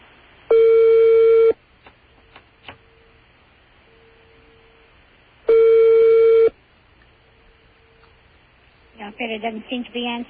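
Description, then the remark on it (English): A telephone line rings twice on a call to an operator, each long electronic ring about a second, separated by a long pause with faint line hiss, and the operator does not pick up; a voice begins speaking at the end. “The operator doesn't seem to be answering.”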